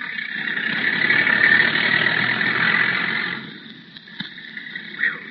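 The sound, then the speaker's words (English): A car engine runs at midnight with a steady, rumbling hum for about three seconds, then fades away, leaving near-quiet with a couple of faint clicks. No voices. “How do we know we followed the right car? Would any ordinary man be motoring in this spot at midnight?”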